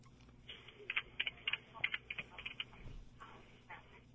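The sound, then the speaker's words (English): Rapid, irregular clicks of a woman typing on a computer keyboard, a quick burst of keystrokes with a low steady hum underneath. “She's typing away.”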